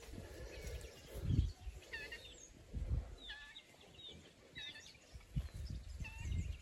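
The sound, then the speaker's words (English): Chickens and guinea fowl call outdoors, with repeated clucks and short, harsh, rising cries overlapping, over a low rumbling background. “Chickens, guinea fowl.”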